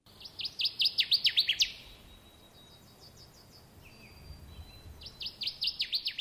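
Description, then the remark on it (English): A Connecticut warbler male sings: a loud, rhythmic series of repeated chirping notes, then a pause of a few seconds before the same quick phrase returns. “Now, the Department of Natural Resources is making efforts to save a disappearing songbird, the Connecticut warbler. This is the male's call.”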